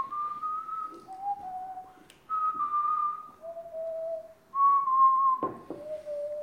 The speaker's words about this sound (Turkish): Ne çalıyorsun? Hangi enstrümanı çalıyorsunuz? Islık. Islık çalıyorum abi. Çok pis ıslık çalarım. Parmakla çalıyorsun değil mi? Parmakla da.